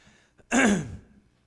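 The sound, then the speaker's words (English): A single harsh, choked throat clearing bursts out, raspy and loud, lasting about half a second with a brief wheezy catch before it fades to quiet. “All of a sudden, devil's got me choked up.”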